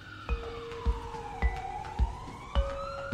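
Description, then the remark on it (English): Polish police car sirens wail and sweep up and down in pitch as a motorcade of cars whips out of a parking lot in Warsaw, with sharp bursts cutting through at a steady rhythm, loud, no voices. “It's a stream of cars whipping out of a parking lot.”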